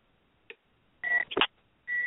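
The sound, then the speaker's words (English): An incoming caller's phone tone on a live call-in radio show: a short click, then bursts of steady, high-pitched electronic beeping separated by brief gaps, with a sharper blip in between. No one speaks. “Oh, we have a caller.”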